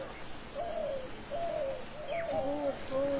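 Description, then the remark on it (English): A dove in Braj coos in repeated soft, rolling phrases, with a second lower coo overlapping near the end, over a faint outdoor hiss and no talking. “I'm trying to figure out what the doves say here in Braj.”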